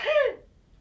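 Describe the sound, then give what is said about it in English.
A single quick sneeze, fairly loud, a sharp breathy burst that fades almost at once into quiet background noise, with no talking. “Bless you.”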